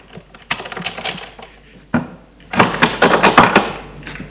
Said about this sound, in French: Il entrebâille la porte et voit Charles prendre de l'argent. Le grand-père referme la porte.